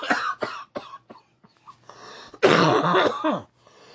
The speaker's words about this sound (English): Sorry, guys. Again, he does have pneumonia, so he is coughing a little bit more than normal.